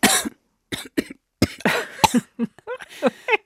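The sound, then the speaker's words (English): A woman coughs repeatedly while covering her mouth, in a loud fit, with short harsh bursts separated by brief pauses, some coming in quick clusters. No talking, just the coughing on its own. “That from my co-host, …, who is covering her mouth”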